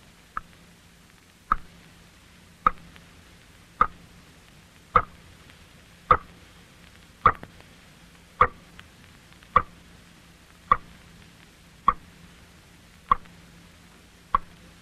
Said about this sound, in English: I have heard ghosts who sounded much like that, in lonely houses about 3 o'clock on some dark morning, and I have found out what made them. It was water dropping slowly from a leaky faucet into a sink or a bathtub. That is what you just heard.